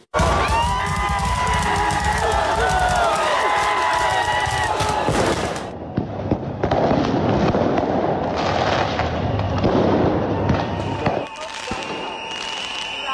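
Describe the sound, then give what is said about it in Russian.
Fireworks crackle and pop in rapid, dense bursts amid a loud outdoor crowd of protesters on Rustaveli Avenue in front of the parliament building in Tbilisi, Georgia, with shouting and cheering mixed in, the volleys continuing almost nonstop throughout, fired against tear gas and water cannons. “Пулеметы из фейерверков против слезоточивого газа и водометов.”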